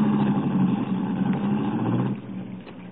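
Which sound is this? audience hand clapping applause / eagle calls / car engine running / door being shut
car engine running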